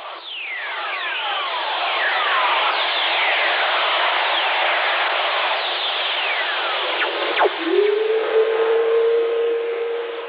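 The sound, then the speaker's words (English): Radio static hisses steadily while many whistling tones glide downward in pitch, overlapping throughout. These are earth whistlers, electromagnetic radiation released by lightning strikes and picked up by radio. One sharp, fast falling sweep comes late, followed by a steady, low-pitched hum. “When lightning strikes, it releases electromagnetic radiation that can be picked up by radio operators, who call them earth whistlers.”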